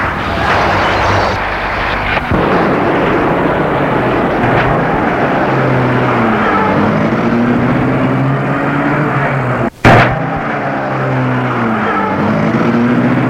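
The engine of a black Rolls-Royce runs loudly, its pitch climbing steadily as the car pulls away and accelerates, with a brief break partway through before the engine noise resumes.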